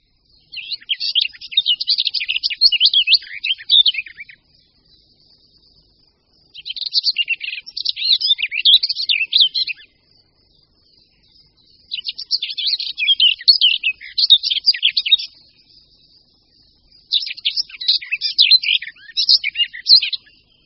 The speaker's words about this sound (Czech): Pěnice Slavíková.